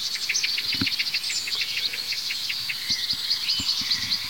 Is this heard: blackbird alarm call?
yes